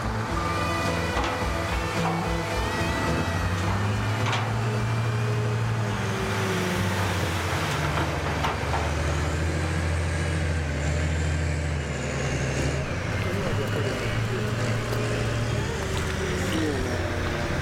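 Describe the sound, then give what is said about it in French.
Heavy trucks delivering soil for a community vegetable garden rumble, their deep diesel engines droning loudly and steadily. The pitch rises and falls as they pull in, with indistinct voices faintly mixed underneath. “Les camions de terre débarquent, le potager peut commencer.”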